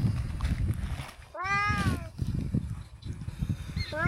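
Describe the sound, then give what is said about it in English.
A kitten left where a fire was lit lets out a long, high-pitched mewing cry, then a brief second meow near the end, over a steady low rumble of background noise. “Whoever threw this here, or whoever lit the fire, knew this kitten was here.”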